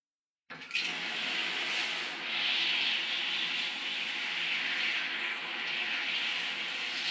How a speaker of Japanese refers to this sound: さあ、まずはシャワーでしっかりとお体を濡らしますね。